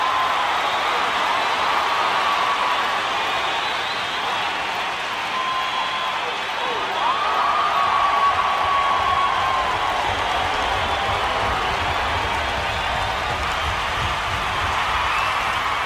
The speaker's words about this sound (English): There was about 5 or 10 minutes of just people screaming at him.